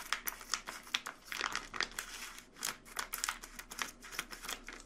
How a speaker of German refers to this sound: ich muss immer also das aufschneiden und die Schere funktioniert gerade nicht so richtig, wie ich möchte. Auch das nervt mich schon. Wie kann man denn so lange brauchen, diese Mozzarella-Tüte zu öffnen?